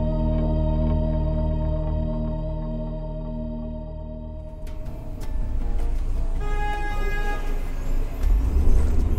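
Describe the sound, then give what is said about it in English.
A car engine hums steadily from inside the vehicle, then the ride turns rough with a jolt and clattering bumps, ending in a heavier thud as the wheels hit a pothole. “Potholes are frustrating for drivers, and they are damaging for cars.”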